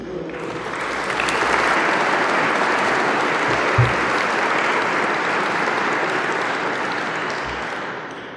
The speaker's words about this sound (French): Je demande aux lauréats de bien vouloir se lever afin que nous puissions les applaudir.